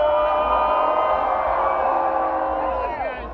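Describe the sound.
A large concert crowd cheers and whoops continuously, many voices blending into a sustained roar with rising and falling shouts, fading slightly at the end.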